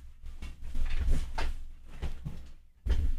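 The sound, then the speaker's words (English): A chair is moved closer, scraping and thumping across the floor in a few rough dragging bursts with low knocks, ending in a heavier bump as it settles. “I'm going to move this chair a bit closer.”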